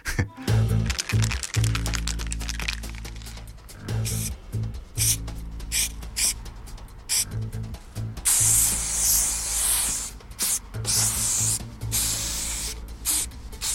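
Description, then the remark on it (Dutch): An aerosol spray paint can hisses in a series of short, sharp bursts, then one longer sustained spray, over a steady low musical background. “Nee, nou, ik gebruik niet zo heel veel spuitbussen meer.”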